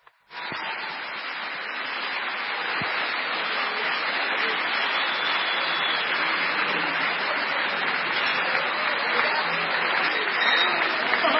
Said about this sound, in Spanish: Fuerte ese aplauso, fuerte.